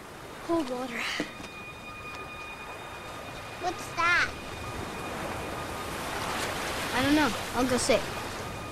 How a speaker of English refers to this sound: Waves roll onto the shore.